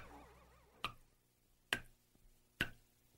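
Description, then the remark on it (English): Three crisp, evenly spaced drips land one after another with a bright, slightly ringing plink, each fading quickly into near silence between drops. “Think of a water droplet separated from its source, isolated, dripping into an empty bowl, displaced, apart from the whole.”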